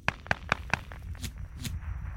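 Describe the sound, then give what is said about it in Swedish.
A short burst of machine gun fire in an ambush on rebels at a forest edge, on an overcast, muggy day: four sharp, evenly spaced cracks in quick succession, then two softer, hissing blasts over a low, rumbling background. No one speaks. “Kulsprutet eld driver genom luften och flera kamrater slits i stycken framför honom.”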